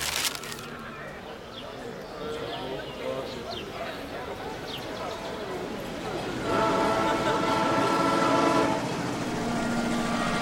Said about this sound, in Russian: Я выехал в Москву из Ростова. Вот подходит почтово-пассажирский поезд в 6:45 вечера. Сажусь я в этот поезд.